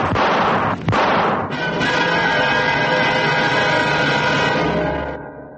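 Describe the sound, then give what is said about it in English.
A loud burst of breaking glass and a couple of sharp gunshot-like bangs, followed by a long, shrill screech of a car's tires that holds steady for several seconds before cutting off, during a robbery by thieves in Rosebank, Johannesburg, at 9:47 a.m. on 10 October. “Morning shoppers are suddenly startled by the sound of breaking glass. This is followed by the screech of a car's tires.”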